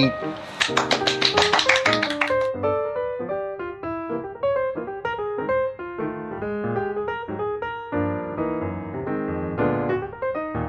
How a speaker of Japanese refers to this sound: 読者のすすめの店から店で録音しております。今パラパラと拍手が鳴ったんですが、私の目の前には、今日はお二方の方がいらっしゃってます。